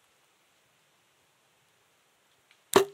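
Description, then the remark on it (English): A single sharp twang-thwack of an arrow released from a bow by an archer aiming at a target, breaking near silence at the very end and fading quickly. “Let the arrow fly.”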